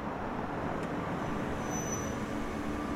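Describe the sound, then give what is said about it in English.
An old Dodge Dart rolls slowly down a driveway, its engine and tires making a steady, low rumble that stays constant throughout, with no voices. “Suddenly, there's a car coming down the driveway.”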